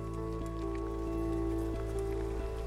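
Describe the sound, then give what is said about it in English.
Heavy rain pours down steadily on someone climbing a steeper bit of rock, a dense, continuous patter of drops drumming on surfaces with a low, constant hum underneath and no voices. “So I'm starting up a slightly steeper bit of rock, but the rain is now really starting to hammer down, so I'm going to be very cautious and just make sure that everything I've got my feet on is dry enough”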